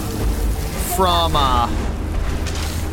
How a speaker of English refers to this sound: All right, let's just run up on him. Take him down. Nice. With a beautiful explosion.